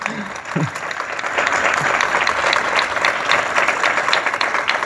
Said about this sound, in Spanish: Un fuerte aplauso.